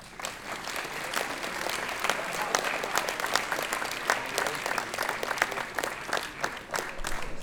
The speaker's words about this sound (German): Und das wäre vielleicht auch noch einen kleinen Applaus wert für Sie selber.